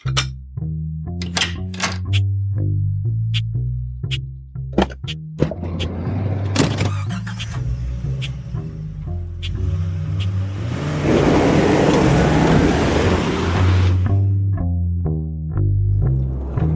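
A car door thunks shut, then an engine starts up and the car pulls away, its rushing road noise swelling for several seconds before fading back, with a light tonal backing underneath throughout.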